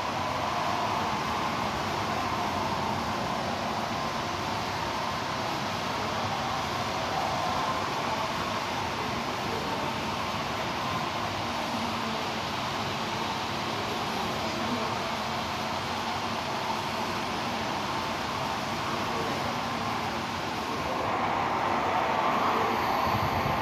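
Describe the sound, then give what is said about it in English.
A train rolls along railway tracks in a steady, continuous rumble with a broad hiss of wheel and track noise, fairly loud, swelling slightly near the end. No voices. “One of the most relaxing sounds I think I have ever personally heard. I love the trains.”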